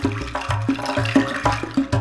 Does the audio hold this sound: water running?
yes